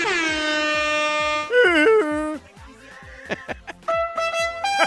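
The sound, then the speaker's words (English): Loud air horn blasts, a long sustained blare followed by shorter bursts and a final series of honks, brassy with no talking over them, played to hype the Heat–Lakers game. “Give me the air horns.”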